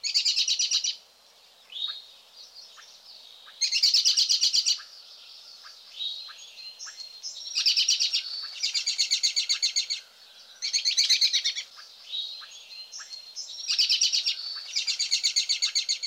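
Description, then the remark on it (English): An American robin gives its whinny call note again and again: loud, high, rapid whinnying trills with softer chirps between them, clear, no voices. “Let's review the call notes of the birds we've just covered. First, the robin's whinny.”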